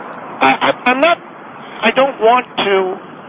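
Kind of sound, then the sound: vehicle, road traffic noise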